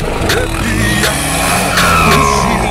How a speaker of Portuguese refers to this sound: É que ela pira no caipira e quando ela escuta o barulho do motor.